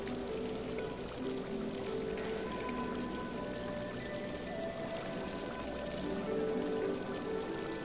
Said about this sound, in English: You walk to the end of the hall, where tiled steps lead down into a waterfall of cascading water.